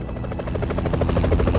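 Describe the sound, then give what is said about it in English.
A sleek black-painted helicopter with a golden dragon logo on its tail flies, its rotor blades thumping in a rapid, steady rhythm over a loud, continuous low engine roar. “Moments later, Anya found herself in a sleek-looking, black-painted helicopter, with the logo of a golden dragon in flight emblazoned on the tail.”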